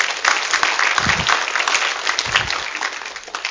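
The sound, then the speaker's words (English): An audience gives a clap offering to God, a dense wash of many hands clapping steadily at a strong level, with a few low murmurs and shouts of voices mixed into the applause. “Give him a good clap offering, would you?”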